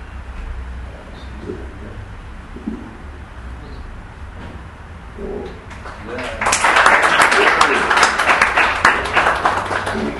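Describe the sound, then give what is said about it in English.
A low, murmuring room tone at a Hare Krishna gathering of devotees gives way about two-thirds through to loud, dense audience applause: many hands clapping in a steady crackling wash that continues to the end. “Nicely, it was worth a round of applause.”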